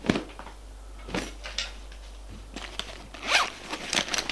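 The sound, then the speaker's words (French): A zipper is pulled open in several quick, scratchy bursts, mixed with soft fabric rustling and handling as a woman searches her coat from the wardrobe for her papers and card. No one speaks. “Regarde le manteau.”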